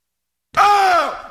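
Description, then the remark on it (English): A single drawn-out, raspy monster wail, like a mummy's scream, used as a sound effect signaling breaking news, starting abruptly after a moment of silence, holding a strained pitch and then sliding downward as it fades out. “When you hear the mummy scream, that means we got breaking news.”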